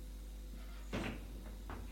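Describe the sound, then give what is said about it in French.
A maid opens and shuts a bedroom door to let a visitor in: one soft clunk followed by two lighter knocks, fairly quiet, over a low steady hum with no voices. “Elle fait entrer Jules, ferme la porte.”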